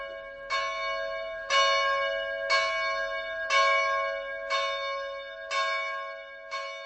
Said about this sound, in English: The bells of Prague's Church of Our Lady Victorious on Karmelitska or Carmelite Street. The church is home to one of the most revered images in the Roman Catholic world, the Bambino di Praga or Child of Prague.